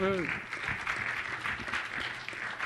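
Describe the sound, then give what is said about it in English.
Steady audience applause of many hands clapping fills the whole stretch at an even, moderate level, with a brief voice heard just at the start; the audience is applauding a coding demo that retrieved a website's title. “I never thought I'd get an applause just for getting back the title of like a website, but hooray.”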